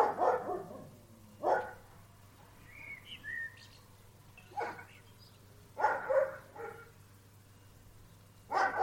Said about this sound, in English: What are you barking at? I see. What is it?